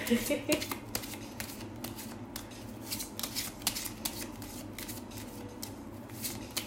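A deck of cards being shuffled, with repeated crisp, fluttering riffles and snaps that come in quick bursts over a low, steady background hum.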